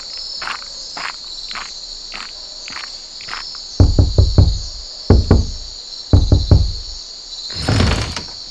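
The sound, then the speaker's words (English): Firm knocks on a wooden door come in three quick bursts of several raps each, loud, over a steady high chirring of crickets in the night background, with a faint scrape near the end. “Why are you knocking at my door at this late hour?”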